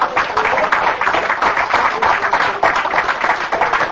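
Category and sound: crowd, audience clapping hands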